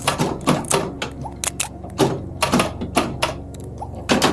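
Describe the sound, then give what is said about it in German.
Typewriter keys clacking in quick, uneven bursts, with sharp percussive strikes spaced irregularly over a low mechanical hum. Fairly loud, with no talking. “Das Klackern auf der Schreibmaschine.”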